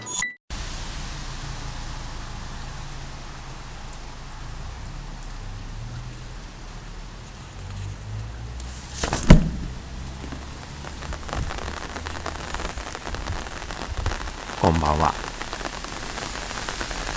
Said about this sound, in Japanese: 本日も無事っていうですかね、雨が降りました。